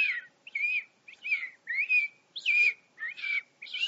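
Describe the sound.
A person whistles an imitation of a robin's morning song: a run of short, clear warbling phrases about two to three per second, rising and dipping in pitch, fairly soft with brief gaps between.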